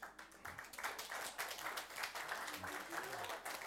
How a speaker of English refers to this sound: Now, we're not giving you a round of applause because you made it to 65. We're giving you a round of applause because you fought for something.